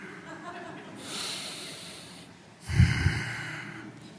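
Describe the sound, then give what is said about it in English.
Two deep breaths during meditation, focusing on the breath: a long airy inhale, a brief pause, then a heavier, louder exhale with a rough, snort-like rush of air through the nose. “Empty mind, empty brain, focus, breath, you know. Breathing in, breathing out.”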